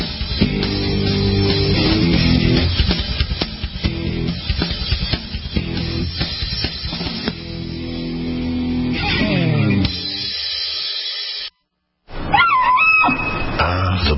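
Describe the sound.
A woman screams in long, loud, wavering cries with sliding high pitch, sounding like a bull elk's bugle, broken by a brief silence before a final rising shriek.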